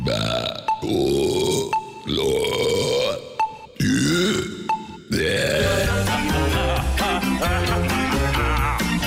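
A rapid string of five loud burps, several deep croaking belches in a row with brief gaps, then a longer sustained rumbling burp running to the end, presented as a top-five burp segment on the Rede Atlântida radio network.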